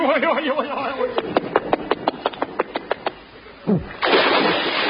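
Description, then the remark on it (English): A loud, sustained splash as a man falls into the sea, following a quick descending whoosh and a rapid run of about a dozen sharp clicks. A wavering voice is heard at the start. “Good shot. He landed right in the sea.”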